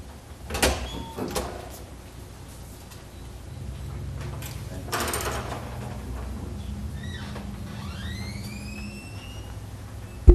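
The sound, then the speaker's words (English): A few sharp metallic clicks like a lock being worked, followed by a door at the council chambers swinging open with a rushing sweep and a short rising creak. “So if the commissioner give me just one second, let me unlock a door”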